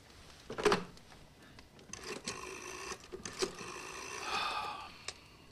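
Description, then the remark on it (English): A telephone handset clatters as it is lifted in front of a fire, followed by a run of mechanical clicks and whirring as a number is dialed, with no voices. “Later, he ponders in front of the dancing flames of a fire before picking up a telephone.”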